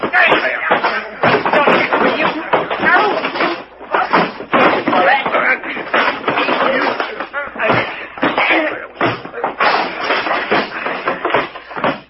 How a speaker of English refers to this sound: Gee, that was a fight.